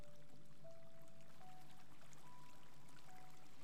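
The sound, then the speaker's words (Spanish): Soft, steady flowing water trickles continuously at a low volume, with faint sustained tones drifting above it and no voices. “Y cómo el agua fluye.”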